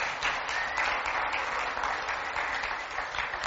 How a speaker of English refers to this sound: Great. I think as we get started here, the first thing we all need to do is give Allison a round of applause.